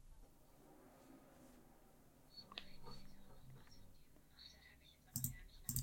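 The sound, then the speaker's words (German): A few sharp, distinct computer mouse clicks near the end, over a quiet background with faint rustling and a soft, indistinct murmur of a voice earlier on. “Muss ich mal einmal ein bisschen hier klicken.”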